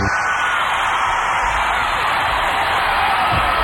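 A sold-out crowd of 13,000 at a concert at the Centrum in Worcester roars and cheers in a dense, continuous wash of noise, with scattered whoops and shouts rising from the steady din for the whole few seconds.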